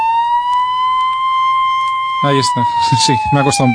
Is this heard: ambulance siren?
yes